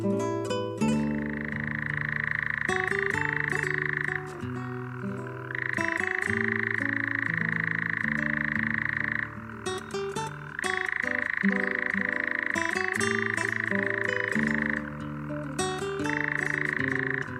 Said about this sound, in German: Das war der Ziegenmelker.